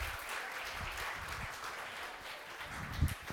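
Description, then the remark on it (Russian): A crowd claps steadily, a dense wash of many hands applauding at a fairly even level for a few seconds, with no voices standing out. “Еще раз дайте аплодисменты.”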